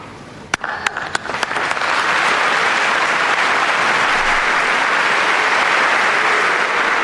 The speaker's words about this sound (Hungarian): Ezt a nagy tapsot hallva, kedves hallgatók, el tudják képzelni, hogy milyen sokan jelen vannak a hatodik pálteremben. Éppen megfigyeltük, hogy szinte már tele van a terem.